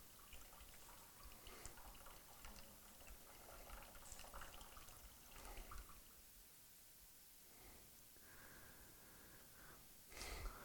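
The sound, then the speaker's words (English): Expensive bottled water is poured out of a bottle until all of it is gone: a continuous splashing gurgle with occasional glugs lasting several seconds, moderately quiet, ending in a brief louder splash. “I just lost $6-7 worth of water.”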